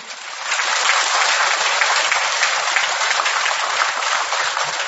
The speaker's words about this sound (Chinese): 大家看见了吗？鼓掌声明显的就响起来了。